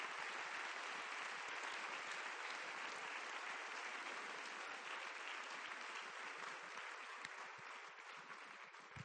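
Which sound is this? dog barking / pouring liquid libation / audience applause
audience applause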